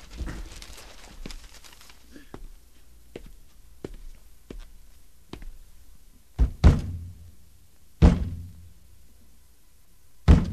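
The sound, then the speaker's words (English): Someone strikes the side of a broken, burned-out radio cabinet with a hand: a series of light, irregular taps gives way to a few heavy thumps spaced a second or two apart. “Bang it again.”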